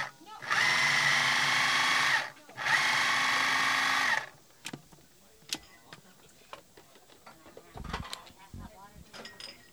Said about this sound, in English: Is the stage that I enjoy the most, where we get the kits and we start chopping and putting everything in the food processor. So I just chopped a bunch of beautiful heirloom tomatoes and put them in the food processor